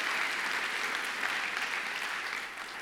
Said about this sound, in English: Would you clap your hands and magnify him like he is today?